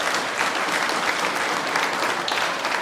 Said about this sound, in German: Einen Applaus für diesen jungen, talentierten Musiker.